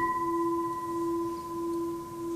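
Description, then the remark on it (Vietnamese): A Huế temple bell, struck with its striker, rings out in a long, steady sustain that can last about 70 seconds, a deep hum layered with bright higher overtones that slowly thin as it resonates, with no voices. “Đây là tiếng chuông Huế, độ ngân vang của nó có thể 70 giây.”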